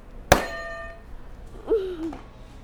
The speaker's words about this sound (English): All right, can you hit another buzzer for me?